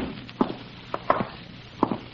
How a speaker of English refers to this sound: That sound in the bedroom. Sounds like the window shade or a blind banging against the wall.